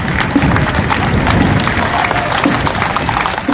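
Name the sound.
crowd gathered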